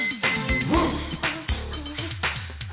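A dog barks again and again in quick, uneven bursts, fairly loud and with a slightly muffled, narrow tone, with no voices over it.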